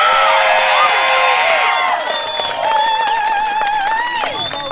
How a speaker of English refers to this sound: You've already been doing such a good job of cheering, but can we get a round of applause for the activists who came before us?